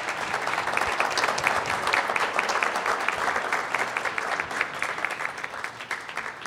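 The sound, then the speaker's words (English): Sustained applause from an audience for election candidates at a candidate panel, a dense, steady wash of many hands clapping at fairly even loudness for several seconds, with no voices over it. “Let's give our candidates a round of applause.”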